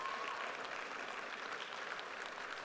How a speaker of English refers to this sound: Would you stand up, just camp exemplar staff, if you work in camp? Just give them a round of applause as well.